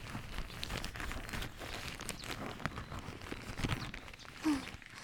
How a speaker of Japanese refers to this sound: じゃあ、ケープかぶせますね。よいしょーっと。